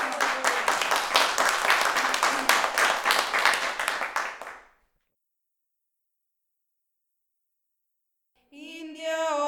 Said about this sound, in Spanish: Un aplauso, compañera.